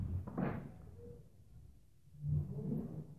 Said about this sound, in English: Just get that door, click it, just so it stops making that silly noise.